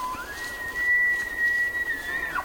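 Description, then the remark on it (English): Two male elk bugling competing calls across a high meadow on an autumn evening in Yellowstone National Park: a long, high, whistle-like call that slides upward, holds a steady shrill tone for about two seconds, then breaks off with a quick downward squeal, with no voices. “Jonathan Storm recorded these two male elk. Their competing testosterone-driven calls for female companions echo across a high meadow on an autumn evening in Yellowstone National Park.”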